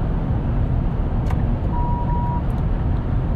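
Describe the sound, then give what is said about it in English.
A single electronic car proximity warning beep, signalling the car is too close to the vehicle behind, sounds for under a second over steady, loud road noise from inside a moving car in light multi-lane traffic. “That beep beep means I'm too close to the person behind.”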